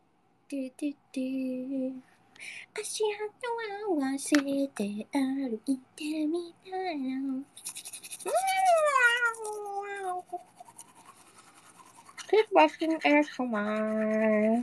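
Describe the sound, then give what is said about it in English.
Rhythmic scrubbing of a toothbrush as someone brushes their teeth, in bursts, mixed with muffled, tonal vocal sounds, like humming or mumbling with a mouthful of brushing. “Hold on, I'm just taking my toothbrush over here to brush my teeth in front of my other phone so I can read the chat.”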